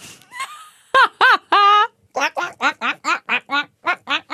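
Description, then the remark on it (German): A person imitates a duck with a run of about a dozen short, nasal, buzzy quacks in quick rhythmic succession, loud and harmonic-rich, after a brief softer vocal lead-in. “Diese Ente nachgemacht hast, das ist einfach ein Wahnsinn.”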